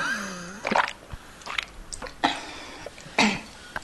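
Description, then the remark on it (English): A drawn-out, wavering vocal sound opens, followed by a few short, breathy bursts spaced apart, then a sharp, fairly loud single cough near the end. No speech. “So the cough at the end is just like a generic cough.”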